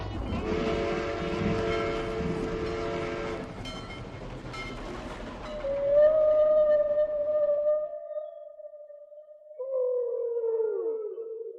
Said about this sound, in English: Among them was a haunting refrain from the depths of the sea. The songs of the humpback whale.